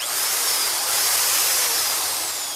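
The drill of the Perseverance rover on Mars extends and bores to take samples, whirring steadily and loudly for a couple of seconds, a continuous high grinding hiss with a faint shifting whine, with no voices.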